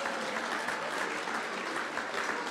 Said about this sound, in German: Na, da hat es natürlich einen Applaus verdient.